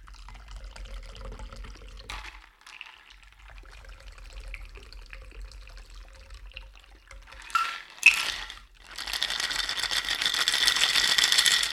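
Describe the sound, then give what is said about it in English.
Ice clinks and rattles softly, with a few sharper knocks, then a steady, hissing stream of liquid pours out as a small cocktail of 1.5 ounces of liquor is strained, growing louder toward the end. No one speaks. “All right, we're straining.”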